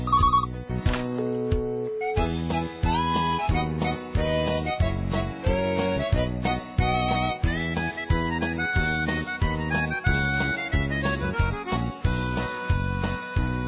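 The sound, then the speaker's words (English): A mobile phone rings with a busy polyphonic melody, a tune of rhythmic beeping notes playing loudly for the whole stretch, with no one speaking over it. “The next thing her mobile phone did ring, just as I was about to put me hand on her.”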